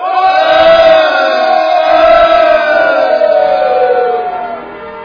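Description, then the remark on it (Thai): The army of Israel, marching around the city of Jericho, roars a sustained battle cry: many voices shout loudly, the massed shout rising and holding for several seconds before trailing off. “จงโห่ร้องเถิดคนอิสราเอล”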